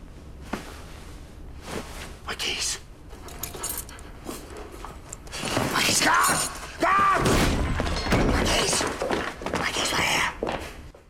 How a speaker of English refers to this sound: Taking the pact, Edward covers up the safe again, just as the goblet the sheriff's holding in his other hand falls to the floor, waking him.